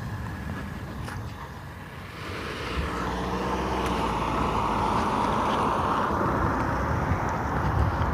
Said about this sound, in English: Okay, I'm going to wait for this car to move.